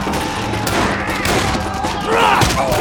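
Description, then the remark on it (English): Rapid revolver shots, from a Colt and a second gun fired to the left and right at panicking bandits, crack out in quick, irregular succession over a dense, roaring din, with shouting voices rising through the chaos of the gunfight. “He drew the Colt on his hip, and with an iron in each hand, he limped forward, firing to the left and right at the bandidos who were running around in a near panic.”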